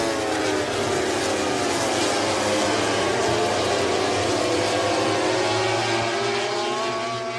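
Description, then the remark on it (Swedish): MotoGP racing motorcycles scream past on their first pass through the Steckenvall curve during a race, a dense, loud wall of high-revving engine whine with pitch rising and sweeping as the pack goes through, sustained for the whole stretch without any talking. “Helikoptern som kommer strax innan motorcyklarna som... Nu kommer de!”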